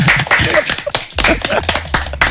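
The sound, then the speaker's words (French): A studio audience bursts into loud, dense, thunderous applause, many hands clapping at once in a steady roar, with a faint low hum running underneath, welcoming a show's columnist back. “Et les amis, je vais vous demander de faire un tonnerre d'applaudissements.”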